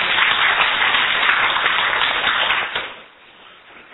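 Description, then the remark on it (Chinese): An audience applauding steadily to welcome a speaker, a dense wash of many hands clapping together for nearly three seconds before tapering off into quiet. “啊，就甲咱讲者吼，啊，即摆以一个掌声来欢迎。”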